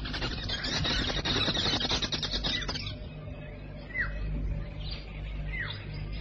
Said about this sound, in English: And on the branch of one of these trees, straining it to near breaking point, balances a gigantic nest. Flying busily in and out of the holes, the most gregarious of all birds, the social weavers.